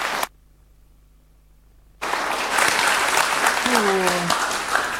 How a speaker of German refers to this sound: Vielen Dank. Noch einmal einen riesengroßen Applaus. Herzlich willkommen.